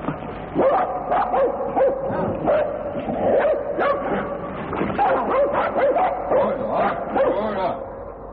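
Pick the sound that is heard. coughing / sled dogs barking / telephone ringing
sled dogs barking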